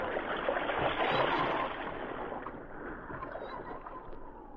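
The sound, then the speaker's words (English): Oars churning through water as two men row a boat off into the Arctic Sea, a steady sloshing and splashing that swells briefly at first, then settles into a continuous wash with no voices. “Less than an hour's time, they entered the boat and rowed off into the Arctic Sea.”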